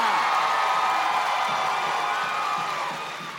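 An audience bursts into steady applause mixed with cheering and a few whoops, a dense loud roar of clapping that holds for a few seconds before starting to taper off.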